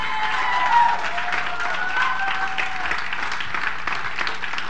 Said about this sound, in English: Give God a hand clap.